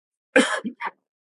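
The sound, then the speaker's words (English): A single short cough from someone in the audience: one harsh burst followed quickly by two smaller hacks, clear, with silence before and after. “The one who coughs.”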